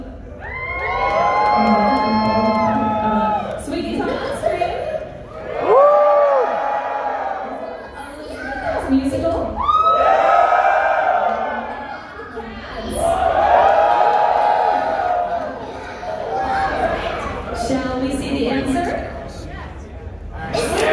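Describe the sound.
A live audience yells and cheers to vote for the musical Little Shop of Horrors, in loud, overlapping bursts with whoops and high shouts, swelling and fading in waves over about twenty seconds, with a few voices talking through it.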